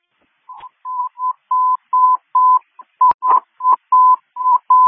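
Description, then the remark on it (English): Dispatch tone-out paging tones calling out an ambulance: a quick run of about a dozen short, steady mid-pitched beeps, evenly spaced and fairly loud, with a sharp click partway through and no voices. “Can you please tone out an ambulance to this location?”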